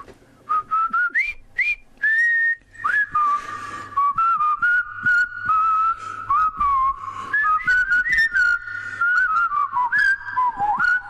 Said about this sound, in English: Do you know what? I'm feeling a bit less flat. Bit of whistling. Turns out the milkman was onto something.